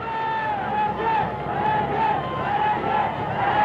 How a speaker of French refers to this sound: C'est au contraire une foule enthousiaste qui l'attend à l'aéroport du Bourget.